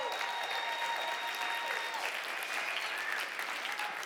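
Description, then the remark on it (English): An audience applauds steadily for a man invited to come up to the front, a dense, even wash of clapping that holds at a constant level for about four seconds with no one speaking over it. “Yeah, let's clap”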